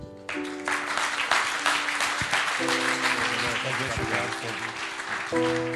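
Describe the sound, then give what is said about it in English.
A church audience claps steadily in dense, continuous applause as a hand clap of praise unto the Lord, loud throughout, with a sustained organ-like chord ringing underneath and shifting pitch a few times. “Why don't we lift our voices and a hand clap of praise one more time unto the Lord.”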